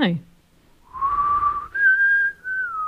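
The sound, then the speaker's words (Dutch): A person whistles two long, steady notes, the second slightly higher than the first, with a breathy edge. A brief vocal sound comes just before the whistling starts. “want moet je met optreden weer fluiten?”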